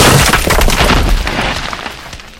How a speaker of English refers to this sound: You run into a brick. Yeah, that sounds painful. Either way, that sounds painful.